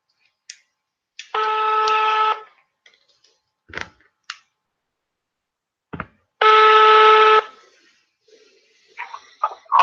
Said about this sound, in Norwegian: Da ringer vi Geir Tangen.